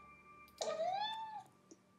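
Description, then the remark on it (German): A single high-pitched meow from a hungry cat in the morning, clear, lasting almost a second with a slightly rising then falling tone, followed by a faint click in otherwise quiet surroundings. “Er miaut dann oft mit sehr hoher Stimme.”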